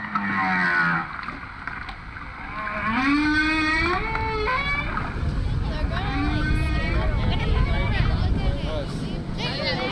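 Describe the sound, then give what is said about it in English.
A lone male humpback whale sings underwater to court a female, recorded by a hydrophone dropped into Dominican waters by a crew: a continuous series of long moans and whooping calls that swoop up and down in pitch, layered over a steady low rumble. “A hydrophone the crew dropped into the water records the sounds of a lone male humpback trying to sweet-talk a female.”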